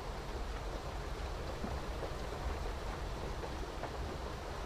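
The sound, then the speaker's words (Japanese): Steady rain falls in a constant, even hiss with no pauses or clear individual drops standing out. It stays at a moderate level throughout, and no one speaks. “今もこうして雨の音の中、布団にくるまってると森の中にいるみたい。”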